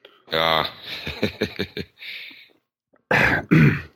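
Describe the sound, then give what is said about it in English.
A voiced throat-clearing rumble with a series of short rasping pulses, then after a brief pause two sharp, loud coughs in quick succession. “Let's see if I can get through this without coughing.”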